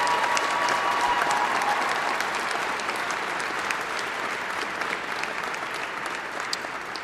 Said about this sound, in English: Come on, give him another round of applause for the records.